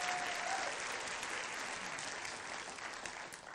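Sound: audience clapping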